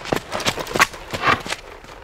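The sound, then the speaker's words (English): Hooves clip-clop in a steady, fairly quick rhythm, a series of sharp knocking steps with no voices, like a horse trotting along. “Can you ride a horse?”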